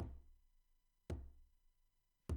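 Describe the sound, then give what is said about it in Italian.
In a children's story, Alice digs through tablecloths and knocks her foot three times on the bottom of a wooden drawer. The knocks are evenly spaced about a second apart, each dull thump leaving a short hollow ring. Fairly soft, with no voices. “Scavò tra le tovaglie, trovò il fondo del cassetto e cominciò a batterci sopra con un piede.”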